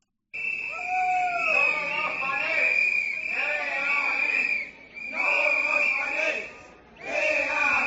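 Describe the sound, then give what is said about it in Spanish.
A crowd of protesters against ADIF, residents of Araño marching through the streets of Santiago on a Saturday, shouts and chants in three loud waves, with brief lulls between them and a shrill, steady high tone running through the noise. “como ya os conté el viernes, esta era solo una de las 2 manifestaciones previstas en Santiago para este fin de semana, porque si se escucharon protestas contra Altri el domingo, el sábado fueron estos gritos los que se escucharon contra el ADIF.”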